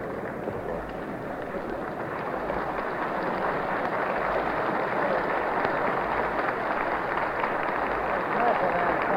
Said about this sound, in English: Ladies and gentlemen, the applause is for the arrival of the President's Cabinet, led by the new Attorney General, Mr. Murphy, Mr. Farley, Mr. Woodring, Mr. Harry Hopkins, the new Commerce Secretary, Mrs. Perkins, the Secretary of Labor